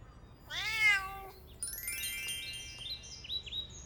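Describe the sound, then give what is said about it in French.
A cat on a boat gives one clear, drawn-out meow, followed by a busy stretch of high bird chirps and tweets at a bird market with parakeets, canaries and parrots, with no talking. “Il y a un chat sur le bateau.”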